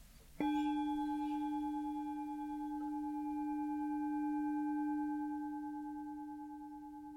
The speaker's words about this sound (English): And see if you can focus your concentration on the sound of the bell.